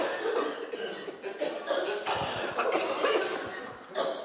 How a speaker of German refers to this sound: Zweimal husten. Nur zweimal husten.